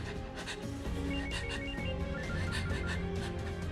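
phone ringing

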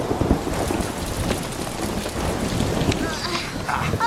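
rain with thunder

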